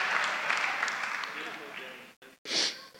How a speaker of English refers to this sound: Just like, give me like a cheer or something. Yes. There you go.